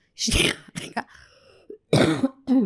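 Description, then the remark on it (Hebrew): A few short coughs in quick succession, with a throat-clearing rasp and a brief pause before two more harsh coughing bursts. “בנות, שנייה, סליחה, יש לי איזה שיעול קטן, וכמו שאתן רואות, אני נותנת לשיעול לצאת ולא מדכא אותו.”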